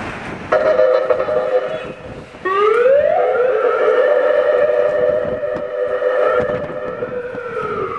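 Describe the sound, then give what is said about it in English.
An ambulance siren late at night, with hardly any cars around, sounds as a loud, steady electronic tone that cuts off briefly, then returns with an upward pitch sweep and holds for several seconds. No one is talking. “Is that like the late night version of the ambulance?”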